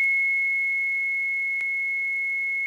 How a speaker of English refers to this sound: Now, it's two channels, so we can produce two different tones with this thing. We'll select sine wave for both sides and feed in a couple of different frequencies and take a look at that.